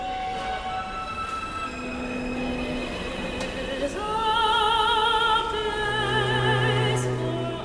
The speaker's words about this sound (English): And then as the train settles into a groove, the transistors slow, and then this is the sound that comes out, which gives you that melody.